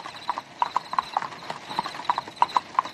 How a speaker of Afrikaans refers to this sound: Net betyds om te sien hoe kom die lijkswa aan. Getrek deur vier swart perde met wit pluime op hulle koppe. Ai, so mooi teen die grys reënwolke.